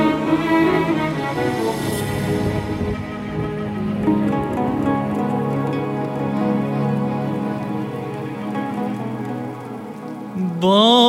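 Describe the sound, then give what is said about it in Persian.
Steady rain pattering on a surface, continuous and fairly loud, mixed with sustained tonal music that runs throughout, with no one speaking. “باران زد بی وقفه به روی سقف تنهایی،”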